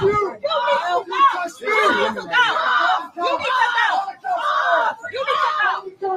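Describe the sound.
A woman on an airplane yells loudly and repeatedly in strained, shouted bursts with brief pauses between them, and a faint murmur of other voices lies underneath.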